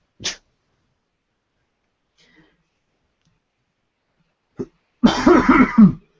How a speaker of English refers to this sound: Sorry. Had to cough.